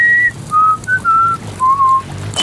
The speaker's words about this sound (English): One creature in front of him whistling one half of a tune, then cocking its head as if waiting for a response. Scowling, Oz hesitatingly whistles the rest of the tune.